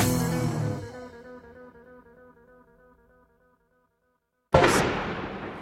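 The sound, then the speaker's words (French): Two heavy explosive booms a few seconds apart at a waste incineration plant. The first trails off in a long, ringing metallic rumble, and the second hits abruptly after a brief silence. No voices. “Là, on vient d'assister à une explosion et on ne sait pas exactement ce que c'est.”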